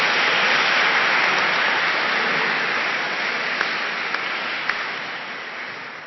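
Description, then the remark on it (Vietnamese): A church audience applauds the choir steadily for about six seconds as its representative receives a gift from the parish priest, a dense wash of many hands clapping together that holds strong before tapering slightly toward the end, with no voices over it. “Xin quý vị cho cao đoàn một tràng pháo tay.”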